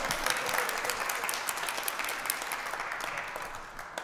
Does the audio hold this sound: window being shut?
no